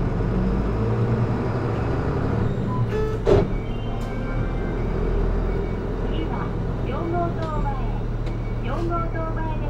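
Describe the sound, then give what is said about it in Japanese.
A Funabashi Shin-Keisei bus pulls away from a stop: steady low engine rumble fills the interior, a sharp clunk and hiss sound early on, then the engine note rises and whines as it accelerates. “発車します。揺れますのでご注意ください。”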